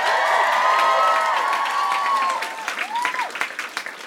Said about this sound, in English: Do us a favor. Give a round of applause to NPR for putting this whole thing on.